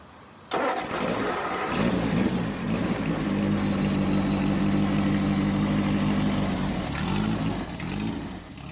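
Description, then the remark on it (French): A wingless Formula Ford race car with a Kent engine and road tyres, driven by Ayrton Senna, bursts to life after a brief quiet moment, then runs loud with a steady throaty drone before revving up and down near the end. “il s'installe aux commandes d'une Formule Ford”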